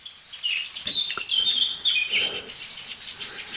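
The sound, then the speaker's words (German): Several small birds, including many blackbirds along with a golden oriole, great spotted woodpecker, song thrush and jay, give repeated alarm calls at a local danger in sharp, high chirps and short trills. The calls overlap in a busy, agitated chorus, with no voices present. “Ob das jetzt der gleiche Greif ist, das können wir nicht sagen, weil was die Vögel uns sagen ist, hier ist ein lokaler Alarm und ich sehe ihn.”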